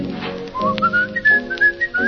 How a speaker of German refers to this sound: steh ich unterm Balkon und pfeif immer zu nach Käthi